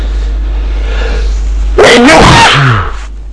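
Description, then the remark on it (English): A loud sneeze bursts out after a quiet stretch of low background hum, with a voiced, wavering tail as it trails off. “Oh, I've been sneezing like crazy all day today.”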